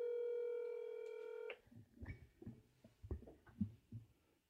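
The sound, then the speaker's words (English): A steady electronic phone tone sounds loudly for about a second and a half as a call is placed to a mother, then cuts off, followed by soft, irregular low thumps and handling noise. No one speaks. “Calling my mommy.”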